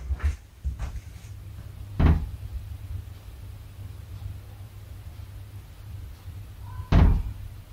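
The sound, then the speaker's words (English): A door in a room with no windows or doors open rattles and thumps in a few separate bursts, as if someone is trying to open it, with quiet stretches of low hum between the loud knocks. “Sounds like someone's trying to open this door.”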